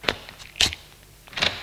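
A door being opened nearby: three short clicks and clunks, like a latch and handle turning, spaced out over a moment, with no one speaking.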